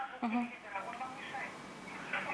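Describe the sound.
A television plays in the background, its muffled voices and sound continuous and fairly quiet, heard as if through a phone line.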